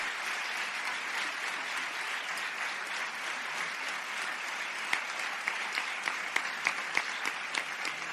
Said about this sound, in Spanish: Son muchos años los que ellos han cursado su grado, su licenciatura, su carrera y luego su doctorado. El aplauso, obviamente, también para ellos.